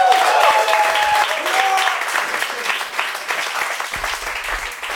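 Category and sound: crowd, roaring applause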